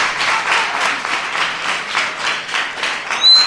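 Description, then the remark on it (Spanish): A group applauds on the Radio UMH show Despierta UMH with steady, dense clapping that holds at an even level throughout, ending with a brief high squeak over the claps. “Un aplauso para ellos.”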